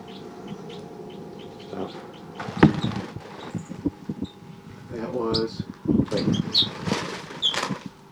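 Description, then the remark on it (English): Baby crossbills call in a busy flurry of short, high chirps and squeaks, with wing flutters and scuffling mixed in, growing louder and denser toward the end. “Recording baby crossbills again.”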